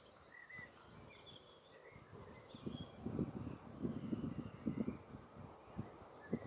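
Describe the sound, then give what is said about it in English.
Light birdsong chirps over a soft, gentle outdoor breeze, then a run of irregular rustling, flapping bursts from the trees as a couple of pigeons fight, growing busier toward the end. “I can hear a couple of pigeons having a bit of a scrap in the trees.”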